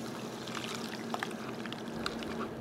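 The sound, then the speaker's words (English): A cocktail is poured through a tea strainer that removes tiny ice shards, a steady trickle and splash of liquid with a few small clinks, running continuously with no one speaking. “And then I'm also going to use a tea strainer. This is going to remove those little tiny ice shards, things that will melt very fast, and increase the amount of water in the drink shortly after we serve it.”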